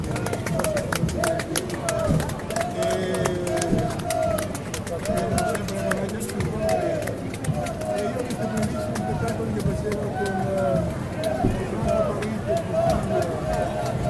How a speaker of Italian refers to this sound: Queste voci e questi suoni vengono da una piazza del Duomo di Milano sotto una pioggia battente, 15 ottobre 2016, il funerale di Dario Fo.